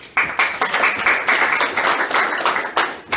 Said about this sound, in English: Please give her a round of applause and she'll talk about her story.